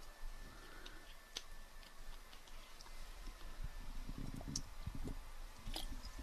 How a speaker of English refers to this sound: And I got to take another sip.